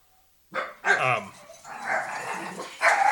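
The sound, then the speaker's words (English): A dog barks outside in a quick run of loud, throaty barks and higher yelping cries, broken by a brief pause, then bursts into another sharp bark at the end. “There was a dog barking outside, so the dog's inside.”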